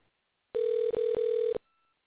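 A single steady, mid-pitched electronic ringing tone on an outgoing phone call lasts about a second, with two tiny flickers in the middle, then silence. No one speaks.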